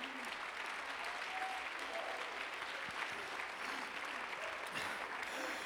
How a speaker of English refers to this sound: Clap your hands to the Lord. Clap as loud as you can.